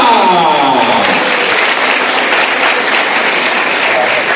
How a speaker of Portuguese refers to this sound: Por isso eu vim assistir, e vamos todos aplaudir o seu canto, o seu canto. Vamos receber aplausos.